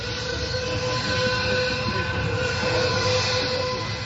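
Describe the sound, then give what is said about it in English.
A recreated sound of the Auschwitz train rolling by loud, a continuous heavy rumble carrying steady high, whistle-like tones throughout, with no voices; played at the 60th anniversary of the liberation of the death camp in southern Poland. “The sound of the Auschwitz train recreated at the 60th anniversary of the liberation of the death camp in southern Poland last Thursday.”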